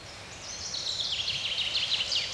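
A common chaffinch sings a bright, rapid phrase of high notes that tumble downward, fairly faint over a soft outdoor background, with no voices.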